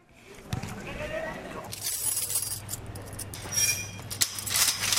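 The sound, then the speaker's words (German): A door is unlocked and opened inside the Villawood internment camp in a suburb of Sydney, Australia: metallic jangling and clinking of keys in a lock, a steady low hum coming in partway through, and a sharp clack of the latch near the end. “Schon wieder eine Türe, schon wieder ein Schloss.”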